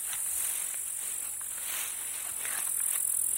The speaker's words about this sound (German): Treten wir mal näher ran an die Kiebitzwiese. Ein paar Schritte hinein ins Gras.